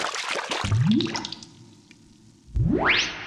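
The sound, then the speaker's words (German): Water splashes briefly in a bathtub as someone dives under, followed by two rising, whooshing bubbly sweeps that climb in pitch. The sound is fairly loud, with no voices. “Kalli ist in der Badewanne getaucht.”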